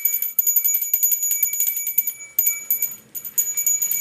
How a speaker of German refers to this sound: Der ist häufig am Handy oder spielt mit meiner Glocke, die ich letztes Jahr zum Wichteln bekommen habe.